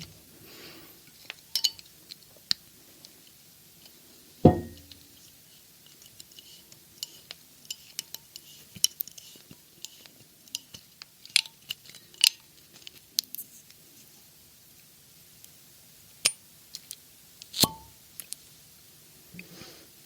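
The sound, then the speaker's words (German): A bottle of young 2017 Grenache from the Ardèche, France, made by winemaker Jérôme Jourel of Villeneuve-de-Berg, being opened: scattered small clicks, scrapes and metallic ticks over about twenty seconds, with two sharper, louder pops standing out. No one speaks. “Ich habe einen Grenache mitgebracht von 2017, ganz jung, aus der Ardèche, eine meiner Lieblingsregionen, wo sehr viele Naturweinwinzer sitzen.”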